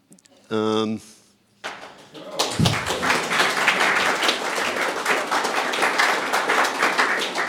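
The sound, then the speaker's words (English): A brief harmonic tone sounds, then an audience breaks into loud, sustained applause, a dense wash of many hands clapping that holds steady for several seconds. “get your applause in now.”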